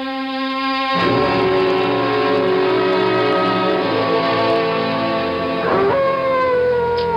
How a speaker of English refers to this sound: What the devil is the matter with that dog, Chadsworth? Well, Mr. Bishop, he misses his master. Being shut away from him, he dotes on the master, does old Whiskey. Only wish he'd be a little less vocal about it.